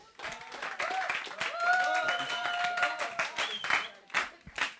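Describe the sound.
An audience applauds with a dense, steady patter of many hands clapping for about five seconds, while voices call out and cheer over the clapping before it thins out at the end.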